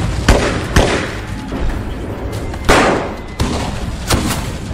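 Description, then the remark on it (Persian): Loud, sharp gunshots crack out irregularly, five or six in all, echoing over a constant rumbling din as both sides exchange fire in a firefight; no one speaks. “وقت هر دو طرف تیر اندازی میکنم، باید بریم!”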